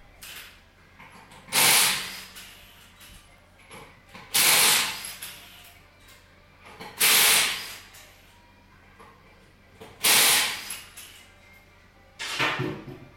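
A pneumatic impact wrench fires in five loud, harsh, buzzing bursts, each about a second long and spaced a few seconds apart, over a low steady background hum and funky music, as the tyre bolts come off and a jacked-up car's tyres are removed one by one in a workshop.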